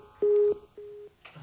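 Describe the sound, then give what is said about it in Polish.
Two steady, mid-pitched phone line beeps, the second fainter, like a disconnected call's busy tone, as a caller's line to a radio programme drops, followed by a voice beginning to speak at the very end. “Coś tam się nam urwało.”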